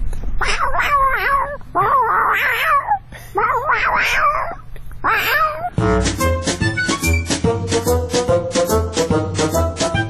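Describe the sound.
A human voice mimics a female cat in heat wanting a tom, with four drawn-out, wavering caterwauls, loud, before upbeat music with a steady beat takes over for the rest.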